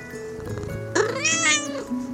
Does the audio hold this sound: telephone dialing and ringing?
no